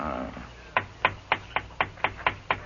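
At night, someone raps on the window of a livery stable office about eight times in a quick, steady rhythm, each knock sharp, after a brief quiet moment with no voices.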